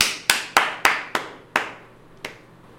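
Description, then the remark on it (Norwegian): Brief, sparse applause: about six separate sharp hand claps, unevenly spaced, the last ones softer and further apart, with no voices. “Applaus.”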